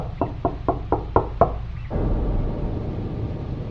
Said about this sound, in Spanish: Eran las 2 de la mañana en punto. Me pareció haber escuchado unos golpes en la puerta. Eso hizo que me levantara de la cama muy asustado.